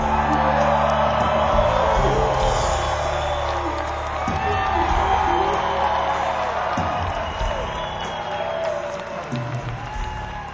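concert crowd cheering

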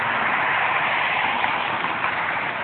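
street traffic

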